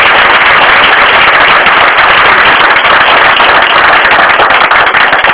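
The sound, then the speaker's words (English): A crowd at a morning gathering gives a steady round of applause for Norman, Philip and Maury Schneer, dense crackling claps sustained at full loudness for several seconds with no voices over it. “Maybe you'd give those people a round of applause.”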